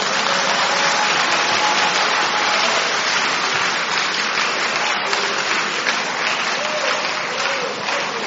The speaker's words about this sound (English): I don't know who you are clapping for now. This one, I don't know. Okay. Okay. If it's him, then clap well.